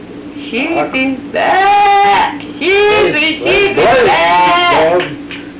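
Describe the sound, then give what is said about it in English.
A farmer calls sheep with long, drawn-out, wavering cries of "sheepy back", repeated three or four times, loud, with a bleating quality to the tone. “And when you're calling sheep, how did you call sheep?”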